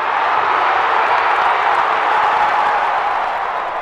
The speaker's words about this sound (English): Now there's the type of cheering that we want to hear.